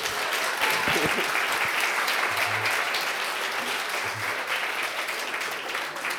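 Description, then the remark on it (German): Sustained applause from a church audience, a dense steady clatter of many hands clapping at once, fairly loud and continuous for several seconds, with a few low murmurs underneath. “Ein Applaus”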